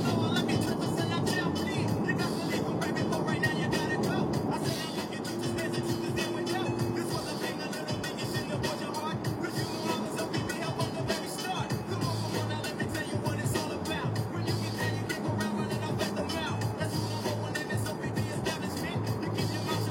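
Steady city car traffic in San Francisco rumbles past for the whole stretch, a dense continuous wash of engine and tire noise with cars blending together at moderate loudness, never dropping to quiet.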